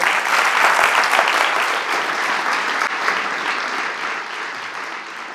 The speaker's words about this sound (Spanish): pido un aplauso para ambos. Gracias.